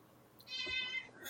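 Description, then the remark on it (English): A single cat meow, drawn out for about half a second with a bright, high-pitched tone, fairly soft and heard on its own against a quiet background. “Oh, you sound so cute. And you go, meow.”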